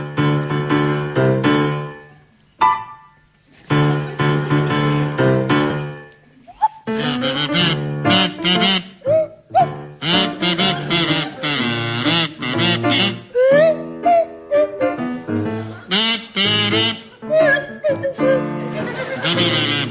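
A buzzing kazoo and a sliding swanee whistle play the tune of a song in short, punchy phrases, with brief pauses between bursts and swooping pitch glides throughout.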